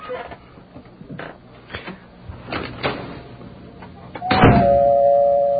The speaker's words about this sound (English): It was kind of amazing to me that we actually had a doorbell in this radio station. Things are supposed to be done professionally here, without studio noise and that kind of thing.